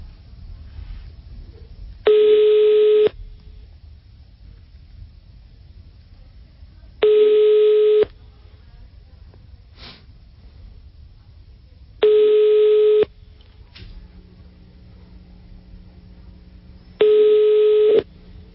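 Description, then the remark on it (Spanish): An outgoing call to a Bogotá telephone number ringing on the line, unanswered: four steady one-second ringback tones, evenly spaced about five seconds apart, with only faint low background noise between them and no talking. “A ver, está timbrando, a ver qué pasa.”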